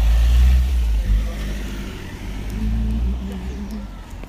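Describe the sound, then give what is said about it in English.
A car's engine rumbles along the road, a steady low drone that is loudest at first and then eases slightly as the vehicle moves on. “Car coming. Plenty of room.”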